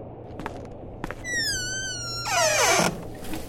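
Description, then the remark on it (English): A door squeaks loudly on its hinges as it swings, a long high creak sliding into a rougher scrape before a soft thud as it shuts, with a couple of light clicks beforehand. “Can you close the door?”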